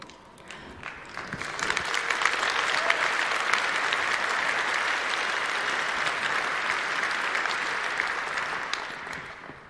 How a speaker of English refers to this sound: I think it's worth clapping for, like, because these are people's lives, right?